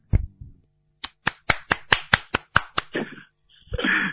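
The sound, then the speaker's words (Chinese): A short round of applause for a fellow disciple's talk: about ten crisp, evenly spaced hand claps in a steady rhythm, then a brief pause and a softer, denser burst of clapping at the end. “是不是要跟他鼓掌了？”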